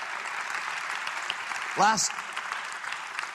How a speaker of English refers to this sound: Now you give him a clap offering, please.